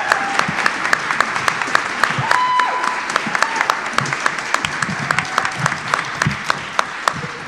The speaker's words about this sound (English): let's give another wonderful round of applause for